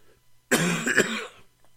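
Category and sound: human body sound, repeated coughing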